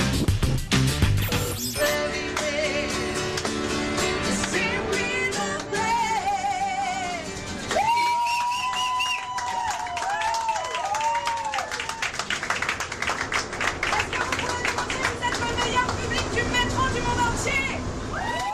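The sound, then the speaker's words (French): Busy Montreal metro ambience: a crowd chatters and echoes throughout while a train's electric motors whine in rising and falling tones midway, over a constant rumble and clatter. “Aujourd'hui, on va tester pour vous le métro de Montréal.”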